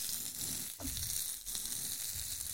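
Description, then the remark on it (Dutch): A hamburger sizzles steadily in a hot pan, still raw inside while the outside begins to cook, a continuous crackling hiss with a few brief pops and scrapes, no voices over it. “Het ergste gesis is al.”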